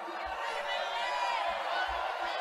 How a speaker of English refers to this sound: You can hear the crowd shouting McCain's name.